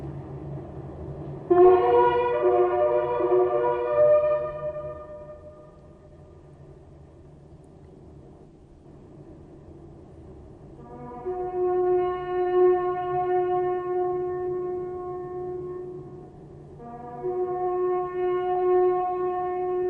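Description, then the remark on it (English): Two buglers sound the Last Post at the Menin Gate in Ypres, a live daily performance with traffic stopped by police, preserved on a reel: slow, loud, sustained brassy notes with bright overtones, separated by a quiet pause, over a faint low rumble and no talking. “In a few moments, police will stop all traffic and two buglers will come out and sound the last post.”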